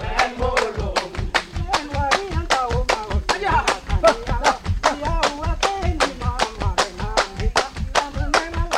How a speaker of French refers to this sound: Et ici, c'est le corps humain. Toute la rythmique que l'on entend vient des mains, des bras, des pieds que l'on frappe, que l'on tape, que l'on claque, que l'on frotte.